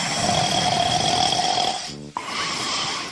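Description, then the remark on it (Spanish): A voice imitates a wolf snoring loudly: a long, raspy drawn-out breath, then a brief gravelly snort before the rough breathing resumes. No other sounds accompany it. “Y se fueron y encontraron al lobo roncando.”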